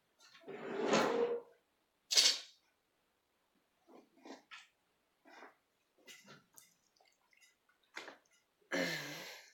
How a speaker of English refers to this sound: And while you're doing that, I just need to get something from this drawer.